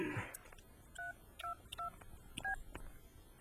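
Four short dual-tone keypad beeps from a mobile phone being dialed, spaced about half a second apart, clear and close, following a brief burst of noise at the start.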